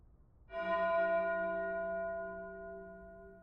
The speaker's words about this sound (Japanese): 遠くに響くこの鐘の音。聞き覚えありますよね。